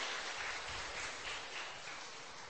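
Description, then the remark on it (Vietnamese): Steady applause from a crowd for the children fills the space, a dense, sustained patter of many hands clapping at moderate volume without pause, heard alone with no talking. “Xin cảm ơn tất cả các em thiếu nhi bằng một tràng pháo tay nữa thưa anh chị em.”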